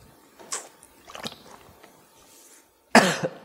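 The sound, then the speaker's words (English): A man coughs several times while preaching in church: a couple of softer, raspy coughs followed by a pause, then one loud, harsh cough with a quick second burst right after it. “If I cough all the way through this, the word is still, fortunately, under God, going to grow.”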